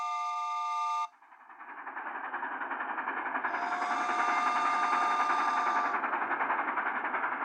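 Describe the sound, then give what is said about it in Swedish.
A short horn-like tone cuts off, then a train rumbles past, its steady rolling roar growing louder with a faint rhythmic clatter. No one speaks. “Han älskar visst tåg, säger Bamse.”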